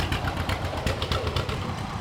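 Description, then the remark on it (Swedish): An old, small green-and-yellow John Deere BR two-cylinder tractor from the 1940s runs steadily, its low, uneven chugging pulses repeating in a loping rhythm with no voices over it. “Ja, här kommer en gammal John Deere, en liten en, grön och gul.”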